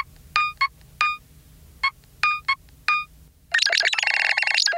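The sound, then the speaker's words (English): A chirpy electronic ringtone from an Android phone with a retro dot-matrix theme, in short bleeping bursts with harmonic tones, sounding like a retro gaming console, ending in a denser, rapid jingle of bright synthetic notes, clear with no voices. “The ringtones, I think, are a big part of the kind of identity, I think, of the phone.”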